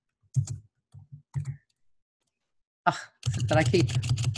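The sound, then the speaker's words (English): A few separate clicky taps on a computer keyboard as someone types text into a document, then a short pause before a denser, louder flurry of rapid typing fills the last second. “Yeah, and then, so if I were to just type it here a little better, it would be overview, and then, like, I'm typing, hang on.”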